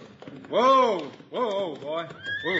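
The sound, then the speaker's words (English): Hickok's horse, ridden into town, whinnies loudly in a long rising and falling cry, then gives two shorter whinnies, with faint hoofbeats clopping underneath. “Look, here comes Hickok now, riding into town.”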